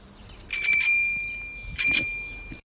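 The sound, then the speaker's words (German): An old-fashioned bicycle bell from 1950 rings in two quick bursts of trilling metallic dings, bright, with a sustained shimmering tone lingering between them. No one speaks. “ist es wirklich eine Fahrradklingel und zwar aus dem Jahre 1950.”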